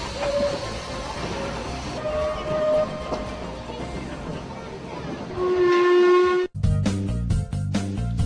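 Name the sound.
train running on rails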